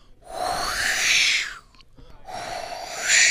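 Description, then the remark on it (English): Two long, breathy blasts blown into a tin can next to a microphone at a Foley table, each a hollow, resonant whoosh with a rising metallic tone, giving an eerie sci-fi death ray effect for a performance of The War of the Worlds. A brief pause separates them; no one speaks. “I blow into the tin can and next to the microphone, and it gives me this effect.”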